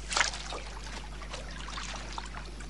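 A quick splash of a woman in a blue bikini plunging into a lagoon, followed by a soft, continuous churning and trickling of water that settles into a low wash for the rest of the moment.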